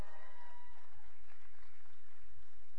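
A crowd claps and cheers in a steady, dense wash of applause, with low thumping bursts underneath throughout.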